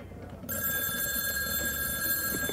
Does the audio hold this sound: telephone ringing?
yes